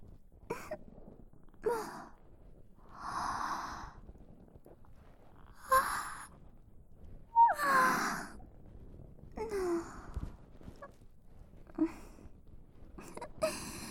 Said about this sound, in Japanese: あくび出ちゃう。疲れてるけど、それ以上に君の隣だと安心して。